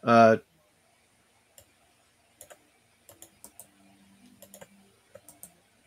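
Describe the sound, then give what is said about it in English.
Two ten-sided dice clatter and tumble across a hard surface in a run of sharp, irregular clicks, quick bunches then scattered taps that settle. A brief loud vocal sound comes just before. The dice are rolled for 2d10 damage in a game, totalling 12. “give me my dice back.”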